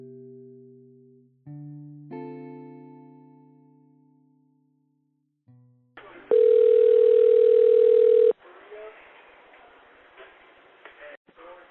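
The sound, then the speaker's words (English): A few sustained musical chords fade out, then a loud, steady telephone tone hums for about two seconds before giving way to crackly, muffled phone-line noise of an emergency call from a Taco Bell on Admiral Callahan. “The night everything changed for Willie's friends and family started with this phone call.”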